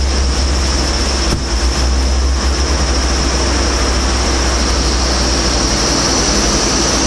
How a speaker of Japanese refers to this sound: 飛行機飛んでるね。うちの飛行機が飛んでる。